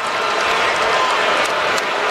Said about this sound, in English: Can we stop all the booing and let these guys play? It's got no class. It's not who we are. Knock off the booing.